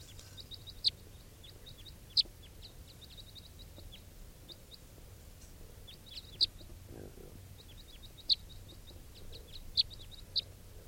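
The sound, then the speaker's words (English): A red crossbill (type 3) gives sharp, high flight calls in short bursts of two or three notes, repeating every second or two over a faint, steady low rumble. “Recording, it's 9:52 and there's an orange male crossbill perched very near the net setup on a stump somewhere.”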